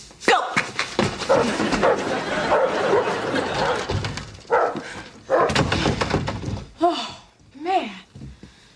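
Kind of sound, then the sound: animal, dog barking and whimpering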